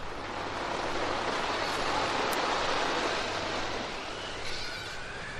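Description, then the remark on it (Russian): Sea waves wash onto a dry shore of yellow sand as the winds blow and the sea grows rough, in a steady, full roar of surf that swells gently and then eases slightly, with a low hum underneath and no voices. “Ветры подули, море взволновалось, и бочку выкинуло на сухой берег, на желтый песок.”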